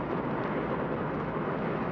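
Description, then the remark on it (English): A loud, steady roar of a truck's engine brake right alongside, a dense, rumbling blare that holds constant for the whole stretch with no voices over it. “Came right up beside me, and then he decided to put on his stupid engine brake.”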